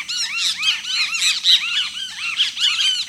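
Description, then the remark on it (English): A great kiskadee, a stocky, robin-sized flycatcher with a bright yellow breast, gives whistled calls that ring out in a busy, overlapping stream of bright, arching notes, fairly loud, with no voices. “You'd probably also hear the whistled notes of a great kiskadee.”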